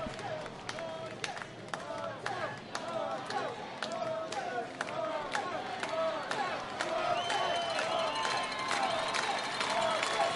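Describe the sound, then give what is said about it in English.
A large crowd at a baseball game at Virginia Credit Union Stadium roars steadily throughout, a dense wash of voices punctuated by sharp claps and scattered shouts, loud and sustained without letting up. “Sometimes you gotta let the crowd do the talking.”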